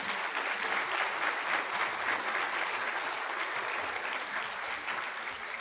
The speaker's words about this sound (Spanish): Dele otro aplauso al Señor, ¿por qué no?